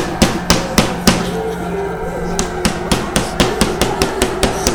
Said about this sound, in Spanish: Después de unos minutos, empiezan a tocar la puerta del camión. Vez más y más fuerte, más y más fuerte.